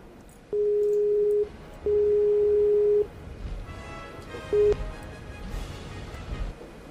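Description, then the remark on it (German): A steady single-pitched phone ringing tone of an outgoing call sounds in long even beeps, two long tones and a short one, loud over faint background noise with no talking. “Es klingelt.”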